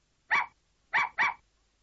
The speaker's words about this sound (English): A puppy. A puppy.